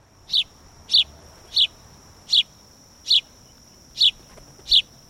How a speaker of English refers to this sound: The house sparrow was first introduced into the U.S. from England in the 1850s and is now one of the most common birds in the country.